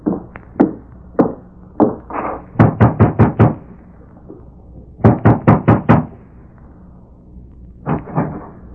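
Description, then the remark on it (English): Knocking on the wooden door of a home where someone is rooming, loud: a few scattered raps, then two quick bursts of about five firm knocks each, separated by pauses, and a softer pair at the end. “Meade rode in his buggy to the home where Nora was rooming, dismounted, and approached the door.”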